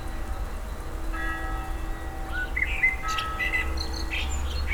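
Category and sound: bird, blackbird singing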